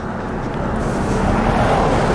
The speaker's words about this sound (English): I've got a car coming up here. I'm coming up to the national park. I don't know what this guy's doing, because the national park's locked. It's probably the police.